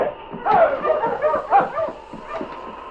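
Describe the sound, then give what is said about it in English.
Several sled dogs of a Mountie's dog team pulling a sled bark and yip excitedly, their sharp, high-pitched yelps overlapping in a busy, continuous chorus, with a few whiny cries mixed in. “In the valley below, he saw a sled and a dog team heading toward the base of the slope.”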